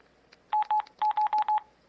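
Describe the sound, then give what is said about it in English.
A quick run of six electronic keypad beeps on a phone with a QWERTY keyboard, as the right soft key, the number 4 and OK are pressed to erase; each a short steady tone, pressed in an uneven rhythm with brief gaps between them. No voices are heard. “And, like I said, you would hit your right soft key, and then the number 4 on the number row of the QWERTY keyboard, and then OK again, and it will say erased.”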